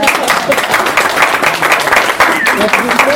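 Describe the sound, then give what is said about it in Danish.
People applaud the election of a new board, a dense wash of overlapping claps that holds at an even, fairly loud level throughout, with some voices mixed in. “Er vi klar til at klappe?”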